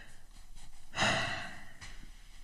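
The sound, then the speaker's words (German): A drawn-out yawn with a deep breath swells suddenly, then slowly trails off into a soft exhale, with quieter breathing before and after and no talking. “Manchmal sperrt er einfach alle Fenster auf und signalisiert mir, mal wieder richtig tief in den Bauch zu atmen, mich zu räkeln, zu gähnen.”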